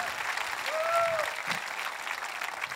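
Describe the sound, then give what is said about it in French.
An audience claps steadily in a dense, sustained wash of applause, with a faint whistle-like tone rising briefly above it partway through. “Vous le voyez applaudir et dire j'étais là!”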